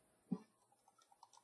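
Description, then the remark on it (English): Quiet typing on a keyboard as a web search is entered: one firmer key tap, then a short, uneven run of soft clicks, with no voices. “I didn't even have to finish the typing.”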